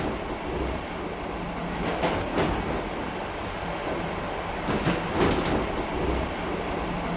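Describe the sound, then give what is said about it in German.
A train rolls steadily along the rails with a continuous rumbling roar, broken by a few louder rattling clatters of the cars passing over track joints, with no voices. “Im Zug von hier nach dort verändert sich der Ort.”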